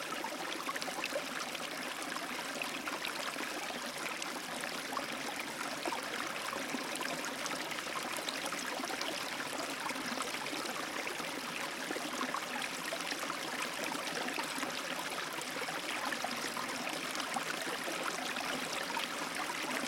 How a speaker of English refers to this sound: Imagine that you are walking down the hill and stop beside a small brook. You sit on a large rock and look downstream at the water happily rippling through the stony creek bed.